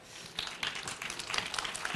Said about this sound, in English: All right. A warm applause.